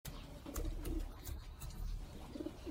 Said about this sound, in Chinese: 父亲说：我已经告诉你是鸽子了，还要我怎么说？